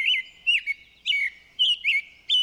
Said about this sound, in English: Baltimore Orioles sounds sweeter, more melodic than American Robins, who can come across a little screechy at times. Once more, here's the long-winded Robin.